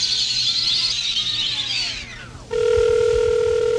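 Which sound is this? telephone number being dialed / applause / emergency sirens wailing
telephone number being dialed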